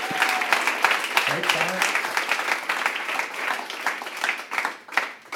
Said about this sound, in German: Ich darf ihm einen riesen Applaus geben, wenn er kommt.